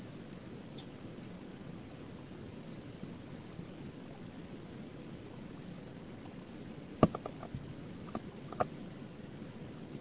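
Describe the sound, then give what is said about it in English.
Water being poured and sipped, a soft continuous trickling hiss followed by a few sharp clinks and small gulping sounds near the end, fairly quiet, with no talking. “Wetting my whistle while I'm waiting.”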